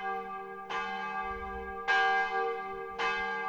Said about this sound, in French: Je ne me réveillai que quand j'entendis sonner la cloche des matines.